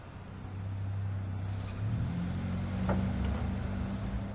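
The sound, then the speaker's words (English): A black Mercedes-Benz car engine hums low and steady, then its pitch rises and the rumble grows louder as the car pulls up, with no voices present. “Can I get your car, sir? Sure, it's the black Mercedes-Benz.”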